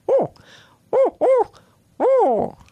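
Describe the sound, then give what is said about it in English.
A person imitates an owl's four-note hooting call: one short hoot, a pause, two quick hoots, then a longer final hoot that wavers and falls away. “And then what they normally do is a four-note call, which is like...”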